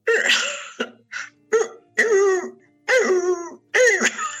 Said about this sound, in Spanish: Eso es un búho. Boludo, es una lechuza engripada.